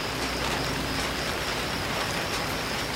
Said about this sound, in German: Später prasseln Regentropfen auf das Zelt. Das hört sich toll an.